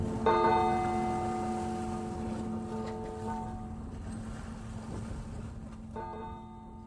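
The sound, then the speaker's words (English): A deep bell tolls once and its rich, humming tone slowly fades over several seconds, then strikes again near the end, with a steady windy, watery rush underneath. “This bell tolls of deep uncertainty.”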